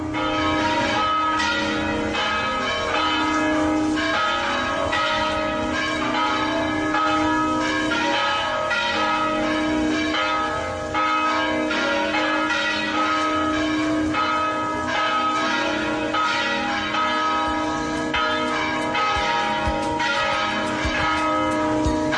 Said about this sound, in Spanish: Los oyentes pensarán que tenemos que dar una noticia cuando repican las campanas, pues es que esta es la forma de introducir a nuestro siguiente invitado